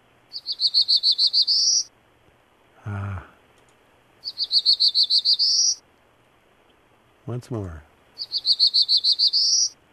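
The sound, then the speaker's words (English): A Black-throated Blue Warbler sings three times, each a short series of buzzy notes climbing to a higher final note. The songs are clear, with brief speech between them. “Well, let's listen to the Black-Throated.”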